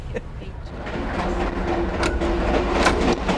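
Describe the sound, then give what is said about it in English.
A passenger train rumbles steadily along the rails, its loud, constant roar broken by a few sharp metallic clacks, with a faint, thin whine running underneath. “I'm not really a train buff, but I know a fun train when I see one, you know?”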